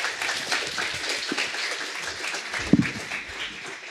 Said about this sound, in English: That was really intense. Big applause again for them.